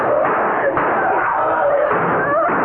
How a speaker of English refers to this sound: It is a horse. A stallion. No. No, it's a dog. A giant dog. And a killer.